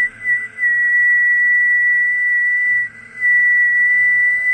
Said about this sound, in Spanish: ¿Quieres un silbido largo? Joder, es que no sé silbar bien. No, me ha salido mal ahí.